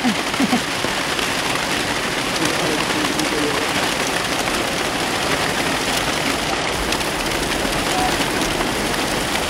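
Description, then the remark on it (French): Heavy tropical rain pours down in a dense, steady roar, huge drops almost like hail hammering with no letup across the whole stretch. “Oh, c'est des gouttes énormes, c'est presque de la grêle hein, qui tombe. Et la chuva est tropicale.”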